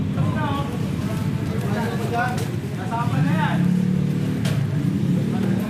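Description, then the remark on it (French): A steady, loud engine rumble from a journalists' car moving in a convoy through busy streets of Pasay toward Cabrera Street, with traffic noise around it and muffled voices talking over the drone throughout. “La voiture s'arrête dans une rue passante d'un quartier résidentiel.”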